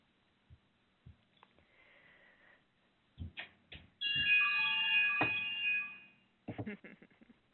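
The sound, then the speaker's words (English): A meditation bell is struck once at the end of a meditation and rings with a bright, sustained tone that slowly fades over about two seconds, with soft taps and shuffling sounds before and after it. “Lovely bells to the end of our meditation.”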